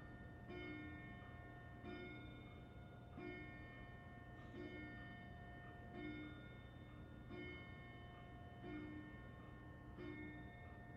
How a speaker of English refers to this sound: Sorry, this is me pausing because there's a bell in the background that I'm not sure if you can hear.